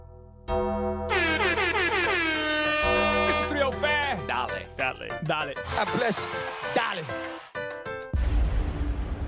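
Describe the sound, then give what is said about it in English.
Loud air horn alarm, called the 305 alarm, blaring for about nine seconds: sustained, buzzy blasts with swooping pitch bends and choppy stutters, ending in a short burst of harsh noise. “we have the 305 alarm coming up here.”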